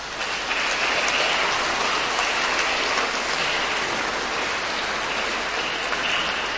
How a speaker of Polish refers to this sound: Już teraz, na początku tego spotkania, także oklaskami podziękujmy gospodarzom dzisiejszego spotkania, księdzu proboszczowi, księżom posługującym w tej parafii i naszym przyjaciołom. Gorące brawa dla nich.